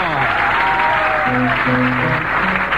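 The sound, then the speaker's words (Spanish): A circus audience applauds the strongman act, announced as Sansón Carrasco, the strongest man in the world, with steady, dense clapping that fills the whole moment, loud, with a few voices rising faintly through the noise. “Lo aplauden, pero solo es un patobica afeminado.”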